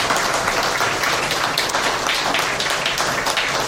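Steady, dense applause from a crowd for a man who handled the sound at the event, many hands clapping at once in a continuous wash of sound that holds at an even, fairly loud level throughout.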